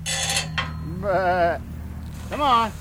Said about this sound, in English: runs a herd of white-faced sheep, a breed prized for pure white wool. Problem is, these sheep appear closer to black, an oily, sooty black.